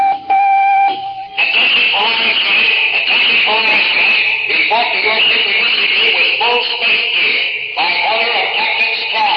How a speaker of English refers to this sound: Cadet life is quiet and routine on the Space Academy campus. Suddenly, the dormitory intercom crackles into life.